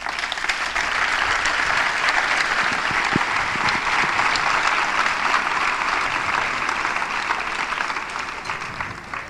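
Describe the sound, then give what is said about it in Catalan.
An audience applauds the maker of an artwork, a steady, dense wash of many hands clapping at a fairly loud, even level for several seconds before tapering slightly at the end. “que el podíem aplaudir perquè està molt bé.”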